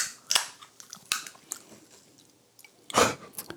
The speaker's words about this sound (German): oh, jetzt geht er wieder an seine Tüte ran, Alter, ich werd wahnsinnig.